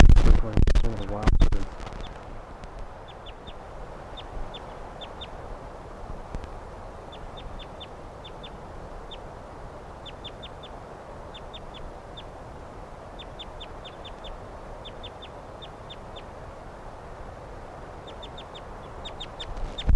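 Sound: wild birds calling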